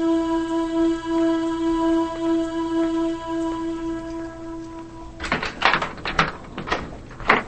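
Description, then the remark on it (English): A steady droning tone fills the background, then a cluster of sharp clicks and rattles follows as a woman unlocks a front door and pushes it open to step inside. “She unlocks the door and steps inside.”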